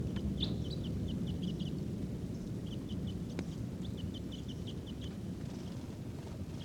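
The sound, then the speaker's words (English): Wild birds foraging in a tree in the middle of a corral give bursts of quick, high, thin chirps in short repeated series, pausing briefly between runs, over a steady low rumble of wind noise. No one speaks. “And they're not calling as much.”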